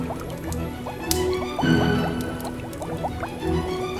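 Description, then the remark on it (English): Boiling water bubbles steadily, a dense stream of small rising pops and gurgles with a few louder surges, and no voices. “He slid down the chimney into boiling hot bubbles.”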